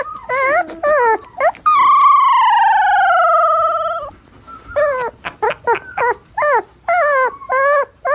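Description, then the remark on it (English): A husky puppy of about three weeks old trying to learn to howl: squeaky yelps lead into one long, wavering, high-pitched howl that sags in pitch, followed by a burst of short, choppy yips and whines, loud. “Baby husky puppy, little puppy dog. And he's trying to learn how to howl.”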